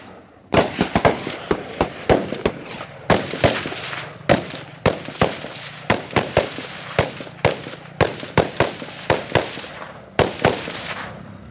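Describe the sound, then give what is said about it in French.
Loud gunfire crackles in rapid, uneven volleys, dozens of sharp cracking shots in quick succession with brief gaps, each report ringing out briefly. A motorcycle patrol rider fires from his motorcycle, shooting from his left shoulder. No one speaks. “He's using left shoulder to fire over there.”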